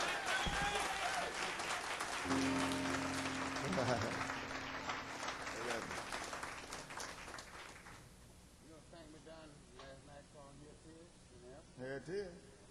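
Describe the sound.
A crowd claps and cheers loudly for a band in a dense, steady wash of applause that gradually dies down, after which a man's voice is heard speaking.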